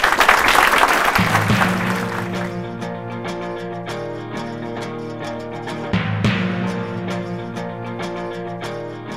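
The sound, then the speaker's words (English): A burst of full audience applause for the readers of a play, fading away over the first couple of seconds as sustained instrumental music swells in and carries on alone. “Another round of applause for our readers.”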